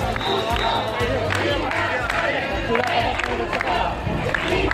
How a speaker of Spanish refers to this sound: Al grito de expulsión, invasores, un grupo de personas ha roto el cordón policial para acceder a la playa del Trampolín, lugar donde están durmiendo cientos de esos inmigrantes.